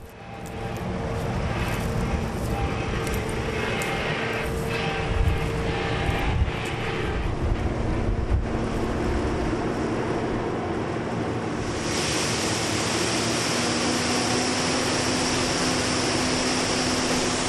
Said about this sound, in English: There's a big arm coming out the side of the combine, and out of that arm are all the beans. Sounds like rain, but there's just thousands and thousands of beans pouring into the trailer.